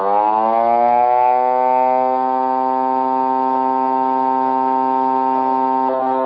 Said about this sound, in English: And now we take away the vibration, and it's just a simple sine wave. And then we put it back. Now it's a complete sound. That is FM in its most basic form.